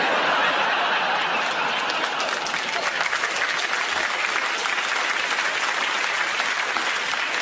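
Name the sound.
audience clapping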